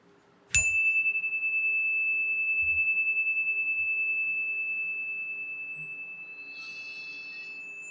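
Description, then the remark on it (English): A single meditation chime is struck once, clear, its pure bright tone ringing on and fading very slowly across several seconds of otherwise quiet surroundings, rung to begin a time of silent meditation. “I'll ring the chime to begin and also at the ending of this time of silence.”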